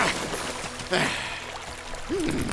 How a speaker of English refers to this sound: I thought I saw a stream near the forest. The water may throw the brute off our scent. It should do the trick.